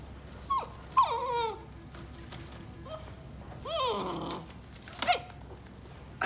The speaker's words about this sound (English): You brought a dog to a hospital?